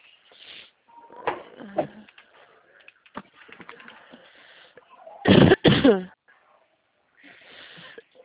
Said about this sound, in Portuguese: Nossa, essa tosse vai me matar.